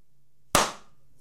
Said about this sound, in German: Langsam und ironisch im Hintergrund. Meint aber genau das Gegenteil. Aber wenn ich von etwas begeistert bin, dann klatsche ich doch nicht. Das ist so ein Bösewicht-Klatschen.